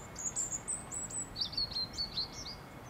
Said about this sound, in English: Shooting and trapping birds on their migratory routes to Africa is a generations-old bonding ritual for Maltese men. They catch birds to keep them in cages and enjoy their song.